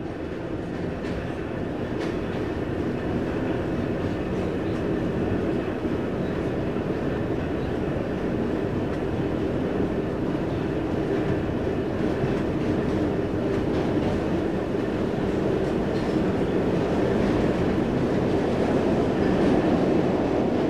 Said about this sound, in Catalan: Tornem a agafar el metro per anar a dinar al Verd.